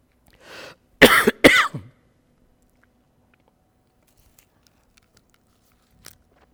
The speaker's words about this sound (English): Put my cough drop back in my mouth, praise the Lord. Someone you would say, that's not too proper, but that's better than me coughing, amen?